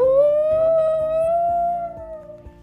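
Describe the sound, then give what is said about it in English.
A dog named Abby lets out one long, drawn-out howl, loud, rising slightly and then sagging as it fades, with a soft rhythmic pulse underneath. “Brady and Ella ran over to where the sound of Abby howling was coming from.”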